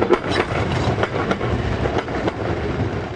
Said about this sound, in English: In the working-class town of Nowa Huta, which means new steelworks, the trams are still running, but they're all nearly empty.